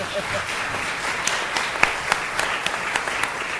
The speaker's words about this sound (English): I see law professor Alex Kezar in the audience. Give Alex a round of applause, will you?